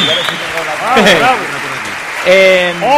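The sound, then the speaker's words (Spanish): A steady wash of audience applause at a night event in Asturias for the bagpipe band Villa Decisión, lasting the whole moment, with voices calling and cheering loudly over the clapping, including a sustained shout near the end. “Un aplauso para la banda de gaites Villa Decisión, un aplauso para ellos, unos auténticos cracks.”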